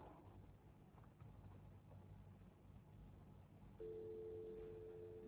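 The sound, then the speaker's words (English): After a few seconds of low rumbling background noise, a steady, unbroken telephone dial tone in the U.S. style switches on and hums continuously at moderate volume until the end. “That's, U.S. style telephone dial tone.”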